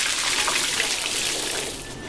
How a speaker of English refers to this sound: Run a restaurant and you learn pretty quick. The sound of a crisp fry starts way before the first bite.